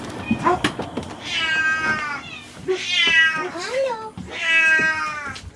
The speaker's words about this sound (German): Und so kommen wir dann nach einem Abstecher bei den AIDS-Katzen und den Junioren auf dem oberen Geländeteil zur Krankenstation. Ja, hier wird jetzt endlich auch mal gemaunzt. Hier wird aber schwer gemaunzt.